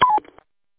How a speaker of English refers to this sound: Were you letting me know I need to turn off my Roger beep, sir?